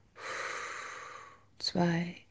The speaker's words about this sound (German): Also, wir atmen ein, 4. Wir halten 4. 2, 3, 4. Wir atmen aus, 4.